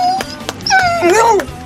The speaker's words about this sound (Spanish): Escuchamos a … y a su perro solidario, Nublo. Él da las gracias, pero de la siguiente forma.